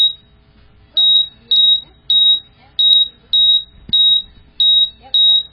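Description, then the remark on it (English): A steady series of short, high-pitched electronic beeps from a laptop, about eight of them at a regular pulse, loud, with faint room noise and murmuring underneath. “We don't want to miss the amazing beeps and boops from this.”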